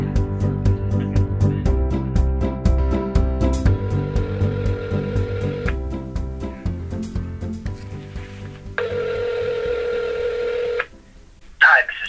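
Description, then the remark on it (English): A cell phone call placed on speakerphone in a library: a burst of dialing tones, then two long ring tones with a pause between them, over some faint background murmur. “I mean, we could do it on speakerphone in the library, on my cell phone.”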